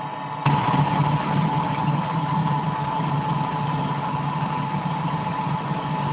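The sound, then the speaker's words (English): A car engine rumbles steadily after a brief quiet moment, a continuous mid-low drone with slight vibration, in traffic moving at about 30 miles an hour, with no voices. “How fast is that traffic getting? 30 miles an hour.”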